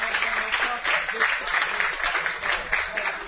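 A crowd applauds steadily, dense overlapping claps forming a continuous bright wash of noise with slight pulsing swells throughout.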